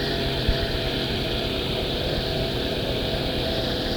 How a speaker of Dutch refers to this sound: Nou, de motorzaag gaat nu de deur in. Er staan een viertal ME'ers, schilder boven hun hoofd. Er wordt wat water gegooid. Nou, de zaag zit in de deur.